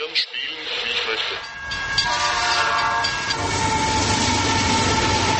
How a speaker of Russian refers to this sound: Появились новые звуковые эффекты. Вблизи модельной дороги грохот поездов такой же, как и на настоящей железнодорожной станции.